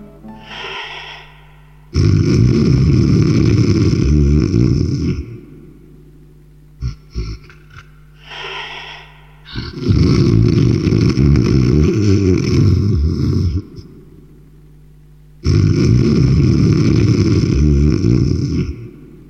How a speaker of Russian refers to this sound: Застонала мать зеленая дубравушка от храпов его перекатистых.